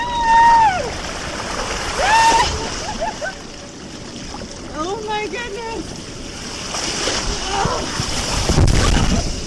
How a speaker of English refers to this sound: It takes me over a minute to splash into the pool of icy cold water at the end.